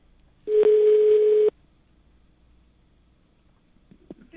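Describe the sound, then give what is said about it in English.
A telephone rings on a switchboard line after wires are plugged in: one loud, steady, buzzy ring lasting about a second, followed by near silence with a few faint clicks. “Plugging wires in someone. There we go. Okay. So now it's ringing.”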